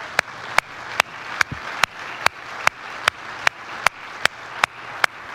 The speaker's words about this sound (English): Now, let's just say thank you, moms. Would you please join me in applauding?